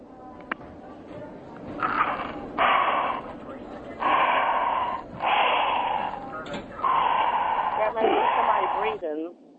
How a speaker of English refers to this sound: And all I heard was just this breathing, and I knew it was her.